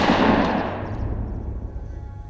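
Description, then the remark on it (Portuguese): A single booming gunshot, a man shot in the forehead, loud, with a long rumbling tail that slowly fades over a couple of seconds; no voices. “Ele vai lá dar um tiro na testa do cara.”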